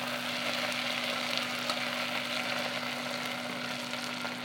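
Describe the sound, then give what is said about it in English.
Food sizzles in a pan with a steady, dense crackle, a low constant hum beneath it and a few faint scraping clicks as it is stirred. No one speaks. “Get a bit more of a stir and see if we've got any carrots.”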